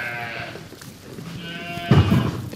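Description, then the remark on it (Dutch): Sheep bleat in overlapping, wavering calls while being set out by a shepherd to graze a section of dyke, a higher tremulous bleat early on and a louder, deeper one near the end, over a low rumbling background. “De schapen komen vandaag op dit stukje te staan.”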